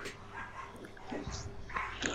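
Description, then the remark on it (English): The speaker's dogs bark and yip excitedly in a few quick bursts, sounding muffled over a low steady hum. “I hear my dogs going crazy in there.”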